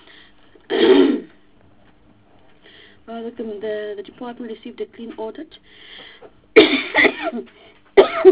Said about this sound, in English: Excuse the coughing.